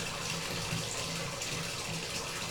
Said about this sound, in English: But we got to get some more hot water in here. So, with the toes, turn the hot water back on.